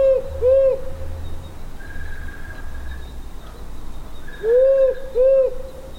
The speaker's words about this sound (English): This is the, and we'll probably play a couple of owl sounds so you can start to hear the difference. This is the male powerful owl.